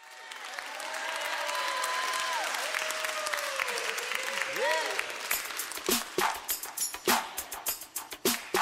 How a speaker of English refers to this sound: Yeah, wherever y'all, come on, clap your hands like this. Let's go!